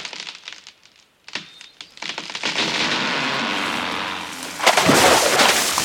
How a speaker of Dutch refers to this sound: De bevers knagen een boomstam om.